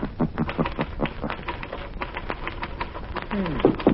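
Sharp, hollow raps on a door come in an uneven series of many quick taps, moderately loud, with a brief voice sounding near the end.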